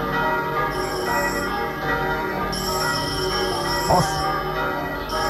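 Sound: church bells ringing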